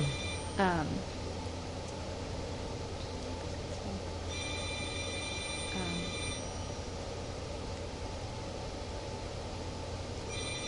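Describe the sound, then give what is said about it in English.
A telephone rings in the background with steady electronic tones in spaced bursts, one long ring in the middle and another starting at the end, over a constant low room hum. “Do you need to get the phone?”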